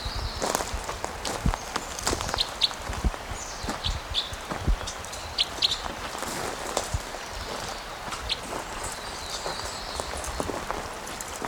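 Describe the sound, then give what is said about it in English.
Steady footsteps crunch over rough ground outdoors as a person walks toward a bird to record its flight calls, a regular walking rhythm of sharp scuffing steps, with faint high bird chirps in the background and no talking. “Okay, so I'm walking towards him again.”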